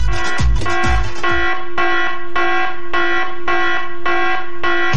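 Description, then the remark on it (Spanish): A loud electronic alarm, used on a radio program as the signal that a contest letter is coming, rings in steady, evenly spaced pulses, a harsh, buzzy tone repeating about twice a second with no one talking over it. “Esa es la alarma que ustedes van a escuchar.”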